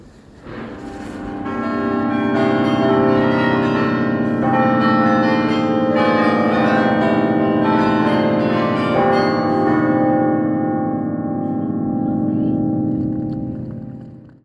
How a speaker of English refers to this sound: I can assure you from very close up, those bells were absolutely deafening.